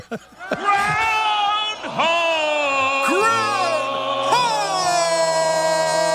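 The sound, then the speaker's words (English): A crowd cheers and yells "Groundhog!" in long, drawn-out shouts that rise and swell in several loud waves, with many voices blending into a sustained, excited roar as a man gets the crowd fired up. “He's getting the crowd fired up.”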